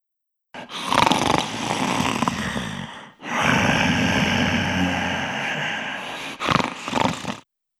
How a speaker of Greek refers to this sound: Ροχαλίζω.